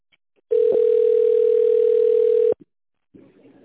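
A telephone ringback tone while calling the company Kholding Evrodom: one loud, steady, mid-pitched beep holding for about two seconds, then a brief click, silence, and faint line hiss.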